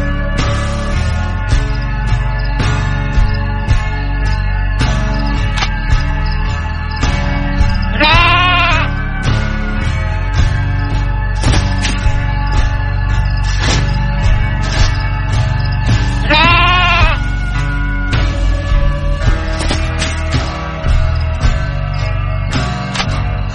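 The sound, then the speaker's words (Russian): A sheep bleats twice, each a short wavering baa about eight seconds apart, set against a steady, full musical backing that plays throughout. “Спокойной ночи, дорогая овечка.”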